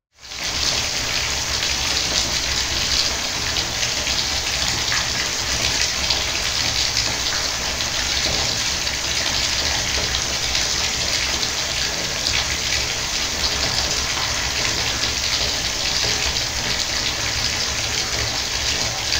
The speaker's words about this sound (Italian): Anzi, ripetiamo uno degli esperimenti fatti da Battiato e Pezzera nel 1971, quello della vasca da bagno. Proviamo ad ascoltare per 20 secondi il suono dell'acqua che scroscia in una vasca da bagno.